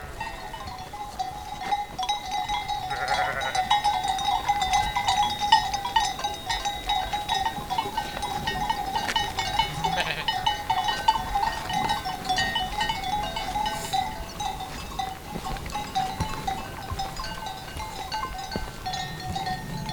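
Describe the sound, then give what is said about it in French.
A flock of ewes beneath the Viscos peak, slowly waking and moving in single file, bleats on and off over a steady jangle of bells, the calls overlapping, with no voices present. “des brebis bougent plutôt en file indienne.”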